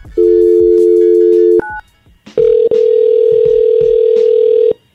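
A steady, loud telephone dial tone hums for over a second, breaks for a quick higher beep, then resumes at a slightly different pitch for about two more seconds before cutting off, as a call is placed on the Hot 97 radio show.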